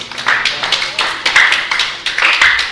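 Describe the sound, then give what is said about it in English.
A group at a Bhagavatam class claps their hands for someone who recited the opening mantra, in a fairly steady rhythm, a quick run of bright, sharp claps that overlap into a loud, continuous patter for a few seconds. “Very good. Give him a clap.”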